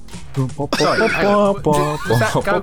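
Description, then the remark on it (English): A person imitates a goat's bleat: two loud, wavering, drawn-out calls, with a few shorter vocal sounds leading in. “Did someone just do that goat noise?”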